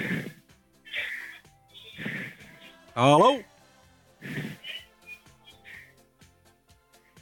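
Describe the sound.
Heavy, rhythmic breathing from a caller over a phone line to the pirate radio station Leeuwarden Piraten: four or five loud, noisy breaths, roughly one per second, with a single short spoken greeting partway through.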